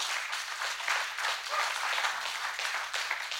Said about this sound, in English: That'd be a good place to clap. Come on.